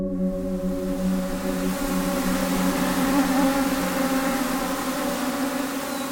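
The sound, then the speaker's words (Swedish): A dense, steady whine of a swarm of mosquitoes buzzing together outdoors in the Nedre Dalälven area of Sweden, a continuous droning hum that fills the whole stretch at an even, fairly loud level with no voices. “Vad var det då som får en grabbtrio i 20-årsåldern att klä av sig och sätta sig utomhus i mygghelvetet?”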